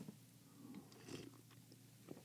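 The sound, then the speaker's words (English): Quiet sipping of coffee: a few soft slurps and mouth sounds, with a brief swallow near the middle, against a faint low hum and no talking. “Let me grab a sip of my coffee.”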